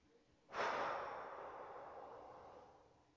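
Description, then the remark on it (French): After a brief silence, a single forceful exhale bursts out suddenly after a held breath, releasing it in a breathing exercise. It is breathy and airy, then slowly trails off over a couple of seconds. It is fairly soft, with no talking. “Et vous relâchez tout vers la terre en soufflant quand c'est le bon moment pour vous.”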